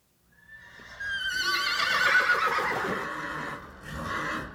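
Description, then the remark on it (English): An upset, tall, black-brown horse with a white star and a snip on its nose, evacuated from fires in Spokane, lets out a loud, agitated whinny: a long quavering neigh that rises and wavers before trailing off. A shorter second cry follows, with faint background noise. “Horses often talk to each other when they're upset or confused.”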